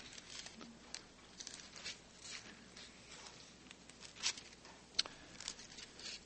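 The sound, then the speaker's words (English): Soft rustling and crinkling as the thin sheets of a large-print Bible are leafed through to Leviticus chapter 1, with several quick papery swishes and light flicks over a few seconds and no talking. “And I've got big print, but thin sheets of paper. So that's what happens when you get the large print.”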